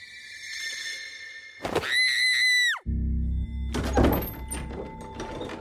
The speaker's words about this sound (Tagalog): Anak, ano nangyayari sa iyo? Ba't ka sumisigaw?